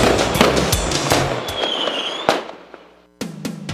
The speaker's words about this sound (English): get ready for a huge fireworks display right through the summer sky